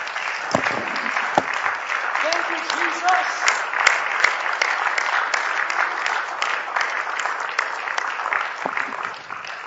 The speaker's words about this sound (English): Let's give the Lord a hand clap offering for what he's done.